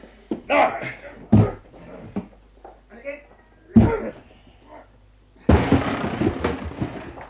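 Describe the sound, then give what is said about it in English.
Two heavy, widely spaced thuds as a wooden door is shouldered, followed by a loud, sustained splintering crash as it gives way, with voices and grunts of effort in between. “Watson, I shall need your shoulder to help break down the door.”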